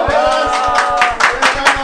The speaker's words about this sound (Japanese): 拍手で ありがとうございます。